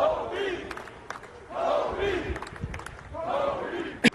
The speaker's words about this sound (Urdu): N F L کے ایک کھیل کے دوران کوبی کی موت کی خبر پہنچتے ہی ہر طرف کوبی کوبی کے نعرے گونج اٹھے.